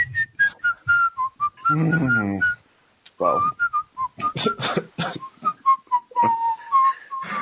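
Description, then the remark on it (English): Someone whistles a bright, steady marching-style melody of short, evenly paced notes, a colonial marching song used in war that is also known as a nursery rhyme, pausing briefly for a spoken word before carrying on with the tune, with some talking mixed in. “And you know how the tune is for that, right? Oh, geez, what is it? A marching song they used in war?”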